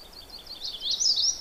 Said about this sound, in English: There are several sounds here, but one of them is an indigo bunting, and I didn't expect to see it here.